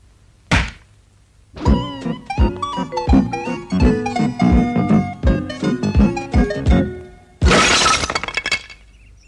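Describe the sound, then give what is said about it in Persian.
Glass shatters with a sharp crash, followed by several seconds of ringing clinks and thuds as pieces fall, then a second loud burst of breaking glass. Loud, with no voices. “یکی از این موارد پنجره سازی است که برای ضمانت شیشه های نشکن خودش را به شیشه کوبید و از طبقه 26 به بیرون پرتاب شد.”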